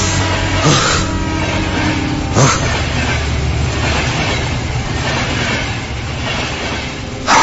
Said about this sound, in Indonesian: Aku terhentak kaget oleh suara kereta api yang lewat di belakang gedung ini.